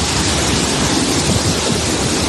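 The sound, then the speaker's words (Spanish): A loud, steady roar of rushing water fills the whole stretch, a dense, unbroken wash of noise from the Zapardiel river in unprecedented flood at Medina del Campo, Valladolid, Spain, after a storm, with no voices. “Por ejemplo, esto que escuchas es el río Zapardiel, que a su paso por Medina del Campo, en Valladolid, ha sufrido una crecida sin precedentes que amenazaba con inundar todo el casco urbano.”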